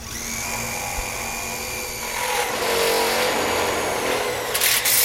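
A power drill whines steadily, its pitch shifting and growing harsher midway as it grinds through hard material: a new worker on a construction job site drilling into metal parts of a wall, with no voices.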